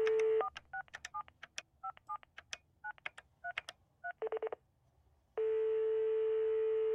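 A steady dial tone cuts off as someone picks up a telephone handset, followed by a quick series of about a dozen touch-tone beeps as a phone number is dialed, a brief pause, then a loud continuous tone resumes.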